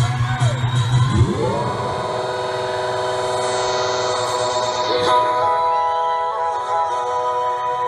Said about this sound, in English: The crowd is so excited.